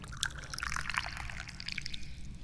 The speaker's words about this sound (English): I'm the chairman of the Dubious Goals Committee, and I'm the guy who pours, that's right, the tea.